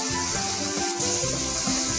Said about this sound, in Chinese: 好，应该已经熟了哈，这个时候呢，我们把我们刚刚炒好的这个竹笋再回锅，好，跟它一起拌，所以顺序是不太一样的哦，顺序不太一样的。